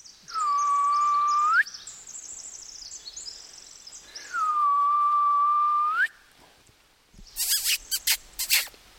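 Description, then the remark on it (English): A person softly imitates an owl's contact call twice, a gentle contact call made to reach endangered owls, each a steady, gentle whistled note with a slight rise at the end, followed by a few sharp rustling clicks. “So since we're kind of in their living room of their house, so to speak, the way that I'm going to try to contact them is by doing a gentle contact call, because out of respect, you know, the birds, if they are here, will be sleeping.”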